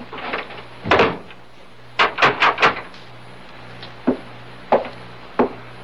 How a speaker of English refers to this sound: Turn the key in the door after I leave. You'll sleep sounder. Maybe I'll do that.